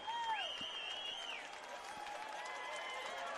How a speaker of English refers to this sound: And this crowd starting to get on their feet and cheer on the team. The players getting them going.